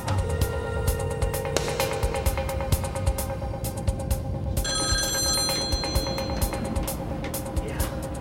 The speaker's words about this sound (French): Le négociateur essaya de les joindre par téléphone.